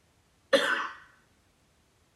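A single sharp cough bursts out loud and close in an otherwise quiet space, trailing off quickly, with the start of another cough just at the very end.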